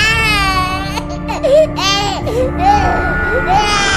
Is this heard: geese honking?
no